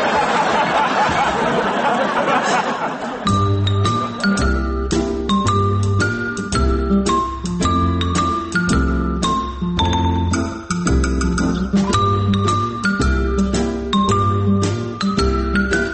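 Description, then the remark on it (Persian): A phone rings loudly with a bright, tinkling melodic ringtone that loops in a steady repeating pattern, after a brief burst of muffled noise at the start. “تلفن تن داره زنگ میزنه، ببین از وزارت ورزش دستور جدید چی رسیده.”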